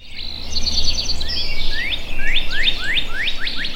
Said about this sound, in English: The northern cardinal was the first and maybe the most prominent, and they're around all year.